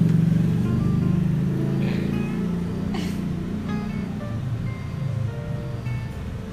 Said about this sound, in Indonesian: Ada mobil yang mau masuk.